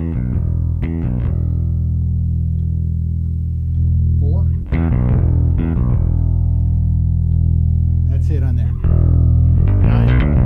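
Electric guitar through an overdrive pedal, with loud chords struck a handful of times and left to ring out in long, thick sustains carrying a mild, gritty growl.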